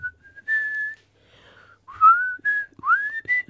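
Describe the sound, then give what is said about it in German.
A person whistles a slow, lilting melody of a rock ballad, a few sustained notes with gliding pitch bends between short pauses, clear with no talking. “Warten Sie, ich pfeife Ihnen mal kurz was.”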